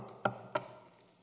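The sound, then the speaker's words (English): Two quick knocks in close succession, a sharp woody rap followed by another about a third of a second later, then quiet. Fairly soft, with no voices. “She knocks again”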